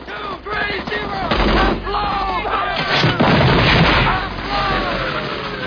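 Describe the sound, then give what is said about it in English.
A loud, continuous battle din in a war film: deep explosive booms, one filmed by a stuntman, roll in a couple of times over steady bursts of gunfire, all heavy, with voices buried in the chaos. “That explosion there was one that the stuntman filmed, you know, with the IMO.”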